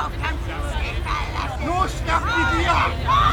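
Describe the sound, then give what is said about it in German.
A dense crowd hubbub of many overlapping voices of agitated spectators, steady, with raised, excited calls rising out of the babble, as a female referee flees from them and one of them throws a can. “Und sie flüchtet vor den Zuschauern.”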